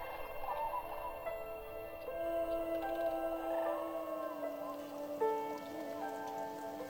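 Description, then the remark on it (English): Steady rain patters in a soft, continuous wash, with a few sustained droning tones running underneath; no one speaks. “The next day, Sunday, is rainy.”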